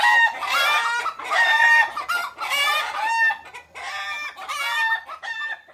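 A hen clucks and a rooster crows in a series of loud, harsh calls, about six bursts with short gaps between them. No one is talking.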